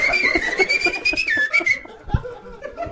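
A person whistles a steady, wavering tone for under two seconds, fairly loud, then stops; some chuckling and scattered noise continue afterward.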